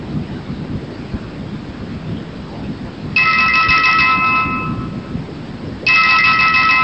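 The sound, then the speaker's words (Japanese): A home telephone rings twice in loud electronic bursts, each about a second long with a short pause between them, over a steady rumbling, rain-like background noise, as a scammer posing as the son calls again the next day. No one speaks. “自宅の電話帳に息子の偽物の携帯電話番号を記載させ、翌日再度息子を装って電話をかけてきます。”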